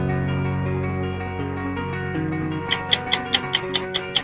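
Game-show 60-second countdown timer music: a sustained, droning synth bed that turns into a steady run of sharp clock-like ticks, about eight in quick even succession near the end, with no talking.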